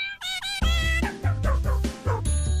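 Several dogs yip and bark in quick, high-pitched bursts, fairly loud, among many dogs and cats gathered out front, layered over a bouncy musical backing with a steady bass line; no one speaks.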